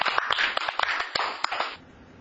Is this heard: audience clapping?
yes